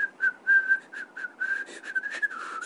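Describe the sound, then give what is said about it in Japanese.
A person whistles a short, wavering tune through pursed lips, partly by drawing breath in, with steady held notes and quick breathy gaps between phrases, fairly clear, with no talking. “口笛ちょっと変だよね”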